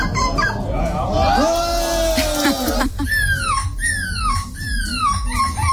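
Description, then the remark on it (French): A person at a seagull-cry competition imitates a seagull before a jury, first with drawn-out wailing calls, then a quick series of four sharp, falling squawks, loud over a steady murmur of background noise. “Chaque participant, déguisé en mouette ou non, doit faire leur plus beau cri devant un jury.”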